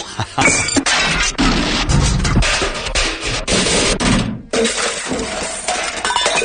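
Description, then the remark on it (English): A studio light falls during filming on the set of the TV show The Good Wife, crashing down with a loud, sustained smash and shattering glass, clattering debris for several seconds, a brief gap, then more rattling and breaking. No one speaks. “filming her her early scenes for her run on the show, where she was hit by a light falling out of the sky and knocked unconscious.”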